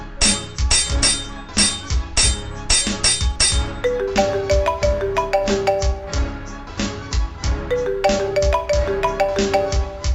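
A phone ringtone plays loudly and steadily for an incoming call at a hospital, a bright repeating electronic melody with a percussive beat, looping for about ten seconds with no voices.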